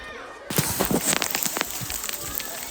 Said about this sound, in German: Oh, ich stehe hier gerade mitten im Wald. Vielleicht regnet. Es kommt sogar ein bisschen Hagelschauer runter. Es ist urselig und kalt,